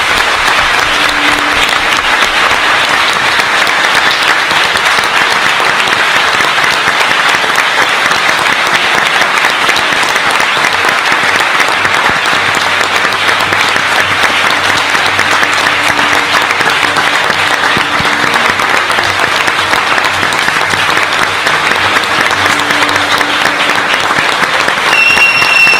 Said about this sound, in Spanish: Gracias por lo que has hecho, gracias por lo que nos has inspirado, que te aseguro que es mucho. Este aplauso, agradecido.